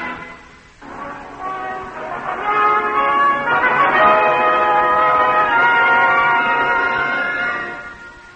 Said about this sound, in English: Oh, lad, sir, there go the bells.